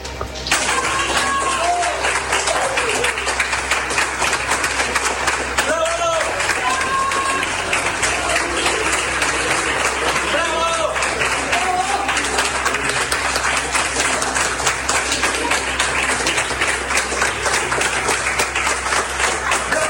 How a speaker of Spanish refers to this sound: Vamos a escuchar el ruido ambiente del momento en que Paulina Muñoz, ex delegada regional, salió de las oficinas siendo ampliamente aplaudida por quienes trabajaron con ella en el gabinete regional.